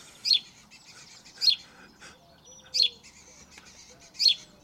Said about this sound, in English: Whether it's the cheep of a sparrow,